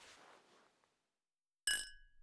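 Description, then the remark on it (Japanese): A single bright clink of glasses touching in a toast, ringing briefly with clear overtones before fading, fairly loud after a soft, muffled rustle and a moment of silence. “グラスこっちに寄せてください。”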